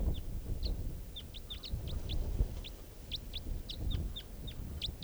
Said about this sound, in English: Bird. And flying right over. A couple of crossbills here, right down low.